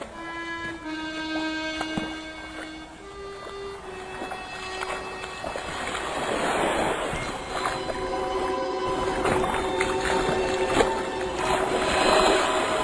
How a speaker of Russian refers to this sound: Наконец, Алик неуверенно проговорил: «Дедушка, мне кажется, я слышу лодку». В первое мгновение дедушка ответил, что ничего не слышит, но вскоре, так же, как и он, различил ритмичные удары весел. «Да, это лодка».